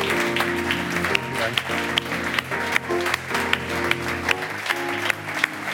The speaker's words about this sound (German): Ein ganz, ganz großen Applaus für Charlie Graf. Vielen, vielen Dank.